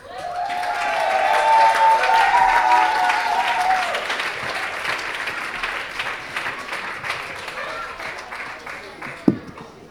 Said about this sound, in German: Riesengroßen Applaus, bis sie auf der Bühne sind.